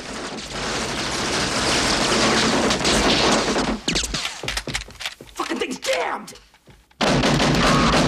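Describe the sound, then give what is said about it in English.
A loud, dense barrage of gunfire from men on a lower floor roars almost without pause, breaks into scattered bursts and a brief lull, then erupts again at full volume near the end. “Under a barrage of fire from the men downstairs, Storm and Andrea crawl along an upper floor walkway.”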